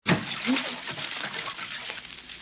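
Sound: water splashing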